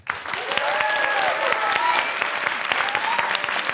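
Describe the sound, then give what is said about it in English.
Sustained audience applause for the guests at the end of a Level Up Human show, dense and steady clapping from many hands with a few faint cheers and whistles rising above it, continuing at full strength throughout. “I'd love you to give a huge round of applause to our guests.”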